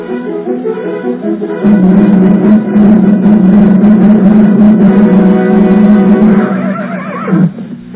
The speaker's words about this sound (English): Hi-yo, Silver! Away! A fiery horse with the speed of light, a cloud of dust, and a hearty hi-yo, Silver, the Lone Ranger.